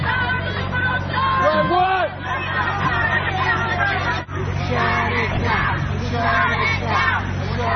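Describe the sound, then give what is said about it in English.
A crowd of many overlapping voices clamors continuously, raised and agitated as if arguing, forming a dense, loud hubbub with occasional sharper shouts rising above the din, at a mass protest against Milo Yiannopoulos speaking, with large crowds held back by barriers. “And there's a lot of angry voices, and there's large crowds being held back by different barriers.”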